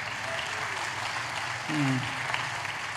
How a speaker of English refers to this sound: Yeah, it's worth clapping for.